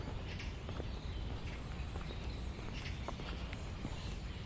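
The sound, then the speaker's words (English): A flock of birds chirps in an avenue of trees in a cemetery, with scattered short high calls popping up over a steady outdoor rumble; no voices are heard. “They're the same flock of birds that I captured last time.”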